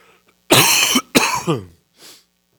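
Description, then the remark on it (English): A harsh coughing fit: two loud, raspy coughs in quick succession, then a softer, breathy cough trailing off after a brief pause. “And when you have a coughing fit coming on, rejoice.”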